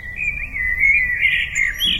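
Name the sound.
blackbird singing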